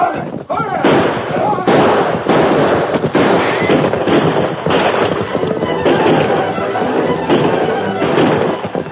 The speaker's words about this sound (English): Led by the Lone Ranger, the Marshal and his posse thundered down the slope, their guns blazing.